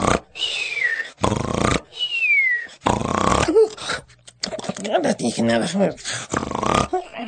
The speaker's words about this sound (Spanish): Después de firmar cientos de autógrafos, Ruperto estaba exhausto. Así que se echó a la sombra del pirul, cerró los ojos, cruzó las patas y al cabo de unos momentos roncaba sonoramente.